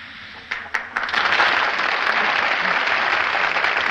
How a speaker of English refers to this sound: You know, what makes this effect so remarkable is that it consists of dropping two tablets of the sponsor's product into a glass of water and letting it fizz, like this.